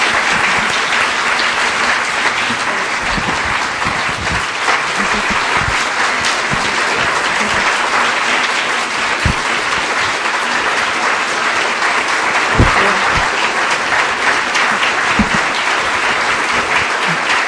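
Sustained applause from a large crowd, a dense, steady wash of clapping at even loudness throughout, with occasional sharper individual claps standing out and no talking.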